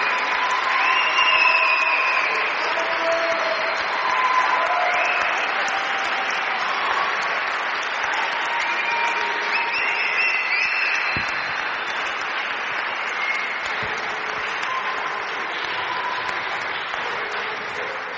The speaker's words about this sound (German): Vielen Dank. Bleibt kurz nochmal stehen. Bleibt kurz nochmal stehen. Euer Applaus.